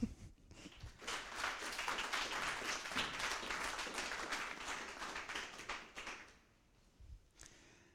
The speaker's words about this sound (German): Gut, also großen Applaus für unsere Regie zum Schneiden.